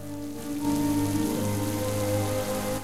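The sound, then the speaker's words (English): A heavy rain shower pours down during a lightning storm onto a man outside taking out the trash, in a steady, dense hiss that swells slightly after the first half second, with a low sustained tonal drone running underneath throughout. “Suddenly, a shower of rain cascades over him.”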